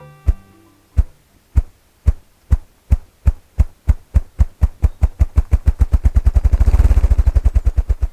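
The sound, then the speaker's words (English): A male ruffed grouse drums with its wings at the edge of a young forest dominated by aspen and poplar: deep, muffled thumps start slow and evenly spaced, then quicken into a rapid, blurring roll before fading. Fairly loud, with no voices. “You're at the edge of a young forest, especially one dominated by aspen and poplar, and you're hearing this accelerating thumping sound.”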